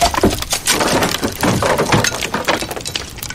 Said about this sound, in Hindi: बम के नजदीक जा रहा है, उसने बम पर गोली चलाई। जोरदार धमाका हुआ।